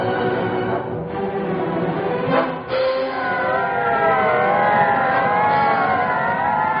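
police car sirens

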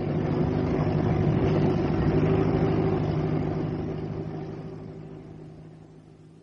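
car driving and parking

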